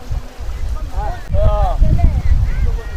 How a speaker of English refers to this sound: our conversation is interrupted by a green wooden fishing boat with fishermen from the deep sea approaching the shore, where women, men and children with baskets eagerly wait to buy fresh fish.